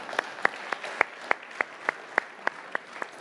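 An audience claps together in a steady, even rhythm, about eleven sharp unified claps over a continuous wash of scattered applause. No one speaks.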